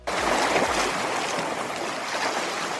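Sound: flowing water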